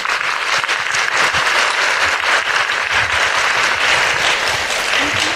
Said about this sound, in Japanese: 今一度大きな拍手をお願いいたします。